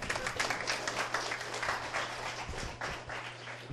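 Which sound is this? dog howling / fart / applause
applause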